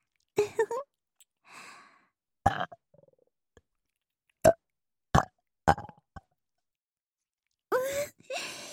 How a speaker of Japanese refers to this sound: やっぱり、ゲップでおちんぽさん、ビクンビクンって反応しました。